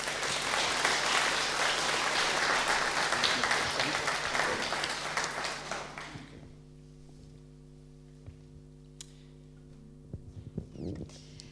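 An audience applauds the evening's musician with dense, steady clapping for about six seconds, then it fades out, leaving a low steady hum with a few faint scattered noises.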